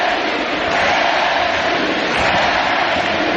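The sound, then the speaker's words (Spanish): A football stadium crowd at the Heliodoro cheers in a dense, sustained roar, loud and steady throughout with no pauses, a broad wash of many voices shouting together. “Sí, como el otro día en Copenhague, escucha el Heliodoro.”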